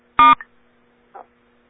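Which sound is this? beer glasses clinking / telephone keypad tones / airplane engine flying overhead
telephone keypad tones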